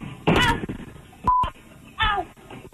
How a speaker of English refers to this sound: So we beeped it out, but just so you know, she said the words that we would all say when a car was rolling over us.